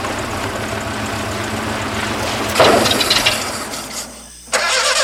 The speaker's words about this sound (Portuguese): O carro não dá partida?